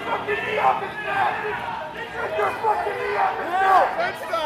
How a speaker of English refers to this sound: So these two officers begin arresting the guy, and one of them puts his knee right on the back of his neck. And almost immediately, the observers in the crowd start shouting.